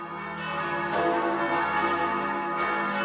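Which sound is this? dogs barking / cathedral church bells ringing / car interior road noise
cathedral church bells ringing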